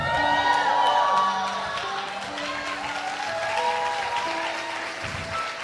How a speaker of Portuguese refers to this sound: Esse aplauso com certeza é para você.